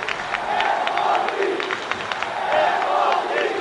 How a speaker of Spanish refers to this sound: Victoria que ahora mismo deja al Sporting líder, lo celebra el Molinón, gritos de Sporting, Sporting.